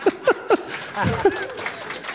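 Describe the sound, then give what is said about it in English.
A few slow, evenly spaced claps ring out, three in quick succession and then a pause before one more, with murmuring voices underneath. “That is the most patronizing applause I've ever heard.”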